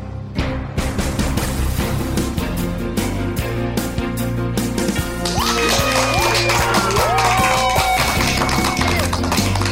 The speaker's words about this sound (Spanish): Con esa energía positiva y esos aplausos damos inicio a este episodio número 78 del programa Te Invito un Café.